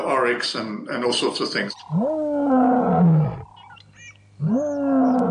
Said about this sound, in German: Wir haben diese großen Elefanten, die kommen, um Wasser zu trinken. Sie bahnen sich einen Weg durch Herden von Zebras und Antilopen.